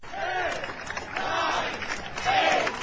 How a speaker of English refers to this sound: A crowd counts down to an Apple Store's opening in Manhattan, waiting for the iPad.